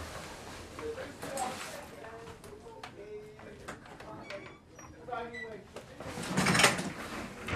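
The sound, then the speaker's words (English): A door is pushed shut with a short, fairly loud knock near the end, preceded by soft shuffling and faint background voices. “just wait, let me close the door.”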